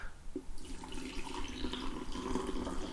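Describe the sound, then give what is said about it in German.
A steady stream of freshly brewed coffee pours into a cup for a few seconds, with a continuous splashing trickle and faint clinks, moderately loud, with no talking. “Das Geräusch ist einfach nur mega geil. Das, also, frischen Kaffee einschenken, so eine feine Sache.”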